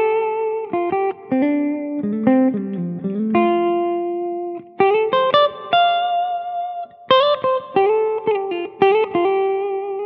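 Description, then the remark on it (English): Fairly loud semi-hollow 335 electric guitar on the middle pickup selection with both pickups up full, played through a true stereo effect with a smidge of reverb and slight grit: short melodic phrases and sustained notes, pausing briefly between bursts, no voices. “It really sounds nice with a 335. Middle selection here, both pickups up full, but you get that nice little bite.”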